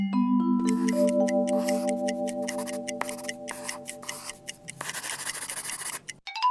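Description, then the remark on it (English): Scratchy, rubbing strokes of drawing on paper repeat in short bursts, ending in a longer rough scribble, while a steady chime-like tone hums underneath. No one speaks. “Now let me help you to draw pictures.”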